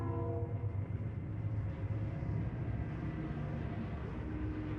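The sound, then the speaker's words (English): A train rumbles past, its heavy wheels and engine drone steady throughout while a loud horn blares in long tones over the noise, with no one speaking. “Get a train here.”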